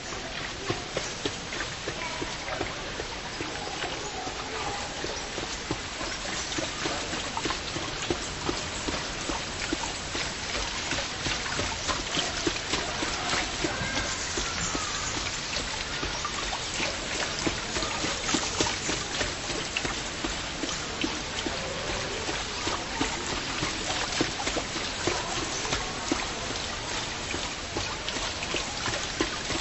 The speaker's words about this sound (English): The lopsided turning of this water wheel makes it especially inviting to the ears.